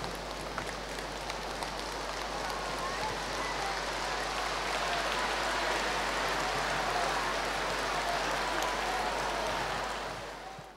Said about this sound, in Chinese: 让我们用最热烈的掌声恭请尊敬的卢俊宏台长。